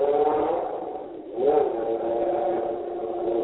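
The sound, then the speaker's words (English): A car engine hums loudly and steadily, dips briefly, then surges with a rising rev before settling back into a sustained, droning roar. No one speaks. “See what this freaking car is.”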